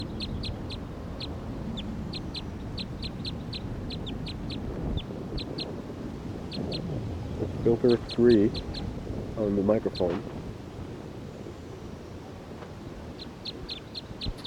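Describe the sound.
A wild bird perched on a hose next to 301 calls with bright, high chirps repeated in quick bursts throughout, over a low steady hum; a man speaks briefly partway through.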